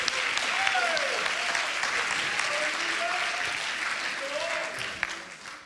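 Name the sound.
audience clapping hands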